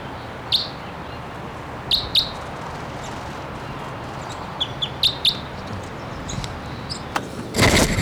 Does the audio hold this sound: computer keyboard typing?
no